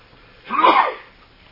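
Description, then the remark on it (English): A single sharp sneeze bursts out alone, a loud, breathy, noisy blast lasting about half a second before fading back to quiet. “Bless you.”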